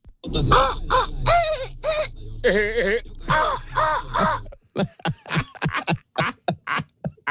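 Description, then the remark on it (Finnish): A man imitates an ordinary gull with a run of loud, wavering, nasal caws in quick bursts, followed by a faster stretch of choppy voiced cries. “Se oli ihan perinteinen lokki.”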